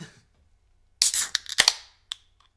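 A bottle of Baltica beer is pried open: a cluster of sharp metallic clicks and a brief hissing fizz, then a final click, with no talking.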